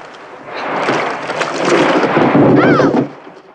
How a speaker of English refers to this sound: Can't you hear it? The wind in the trees. We must be near the bank.